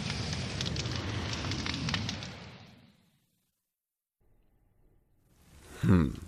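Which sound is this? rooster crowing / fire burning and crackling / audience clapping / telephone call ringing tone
fire burning and crackling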